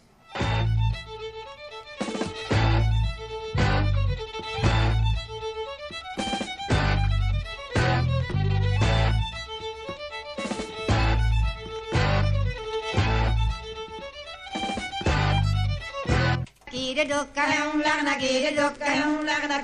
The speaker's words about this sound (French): Et ouais, ben écoute, t'as un jingle. Une cassette à nous passer, un jingle. D'accord. C'est parti.